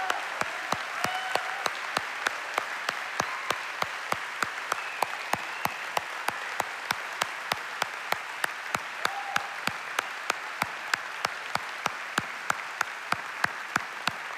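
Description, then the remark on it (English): An audience applauds to honor veterans for their service, steadily for about fourteen seconds, a dense wash of clapping with sharp, evenly spaced claps punching through in a quick regular rhythm. No one speaks. “And so if you are a veteran and you're in the room and if you're watching online, man, I just want to invite you to stand up right now so we can give you applause and honor you for your service.”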